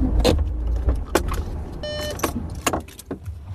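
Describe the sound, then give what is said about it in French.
A car comes to rest and is parked after climbing a mountain road in the Cantal, France, at 7 a.m. in clear weather just after sunrise: the engine rumbles low, with several sharp mechanical clicks, a brief electronic beeping tone, and what sounds like an electric window whirring. “Et voilà, nous arrêtons là.”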